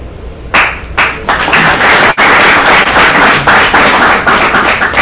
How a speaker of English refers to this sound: I always laugh about that. You get claps beforehand. You're like, wait a minute, you don't know if I'm any good or not.